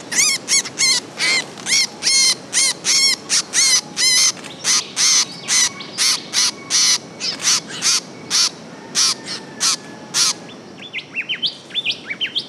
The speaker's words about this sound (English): an angry young blackbird caught in a mist net with you on Lord Howe Island.